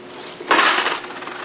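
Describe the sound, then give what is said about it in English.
Keys and other metal objects taken from a pocket at a Midwest Airlines security check clatter into a bucket, with a bright burst of rattling followed by a brief settling jingle, moderately loud. “Do you have any metal objects in your pocket? Yeah. Take them out and put them in the bucket.”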